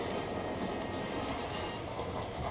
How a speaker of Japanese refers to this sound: この列車が着きました前の方、お二番乗り場からの発車です。